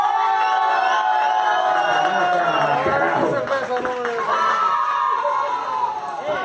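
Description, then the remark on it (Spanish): A loud crowd cheers and shouts continuously, many voices overlapping in excited whoops and yells, with scattered clapping mixed in throughout the burst of applause. “Aplauso para Terremoto.”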